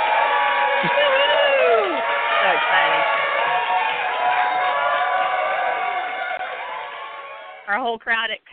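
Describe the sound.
A crowd at the Transformation Cafe cheers and whoops loudly for about seven seconds while doing the wave, many rising and falling voices overlapping, then the roar fades and a single voice speaks briefly at the end.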